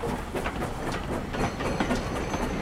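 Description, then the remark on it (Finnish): A train bound for Munich, carrying Snellman on his first train journey, rolls steadily along the rails with a rhythmic clickety-clack of wheels over track joints, a continuous moderately loud rumble with no voices. “Snellman oli menossa Müncheniin ja hän on nyt ensimmäistä kertaa elämässään junassa.”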